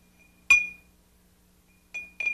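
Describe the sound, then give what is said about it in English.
A small pottery bell shaped like a face rings three times: one bright, clear strike that lingers with a steady high tone, then two quicker, softer rings near the end. No voices are heard. “A bell that looks like a face.”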